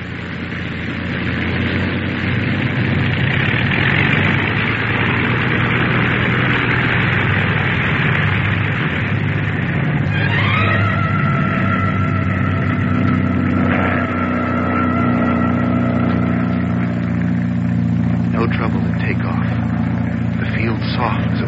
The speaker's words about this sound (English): Give her another listen to her, will you? What do you think? Rev her up again. We'll listen once more. Well, the engine's doing as well as you can expect in this weather.